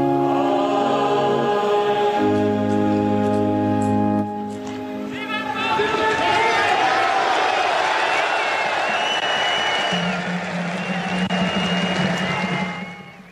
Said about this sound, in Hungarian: El ma sem a tapsvihar a Szent Péter téren.